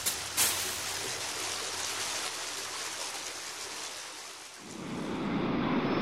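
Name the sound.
flowing stream water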